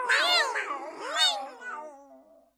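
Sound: cat meowing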